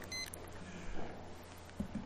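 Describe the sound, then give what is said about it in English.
A short, high electronic beep-click as someone clicks their timer near the start, quite faint, followed by quiet background noise with a couple of soft low thumps. “Love clicking my timer.”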